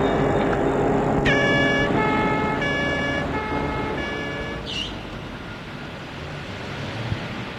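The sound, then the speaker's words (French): A police car siren sounds in a run of repeated, evenly spaced tonal blasts over a steady rumble of traffic, ending with a brief rising whoop as the police car stops, before the street noise carries on. “La voiture de police est arrêtée.”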